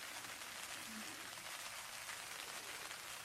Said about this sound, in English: I know how much you love the rain as it gently slaps against the roof and windows.